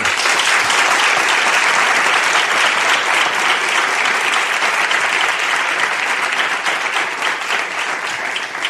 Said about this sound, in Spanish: Esto sí merece un aplauso.